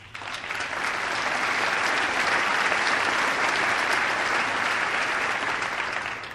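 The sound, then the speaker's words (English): Sustained audience applause from a large crowd, a dense wash of clapping that swells in quickly, holds steady and loud for several seconds, then begins to taper at the end. “I did an edit there at the applause to get to the health care issue, but only a couple of paragraphs.”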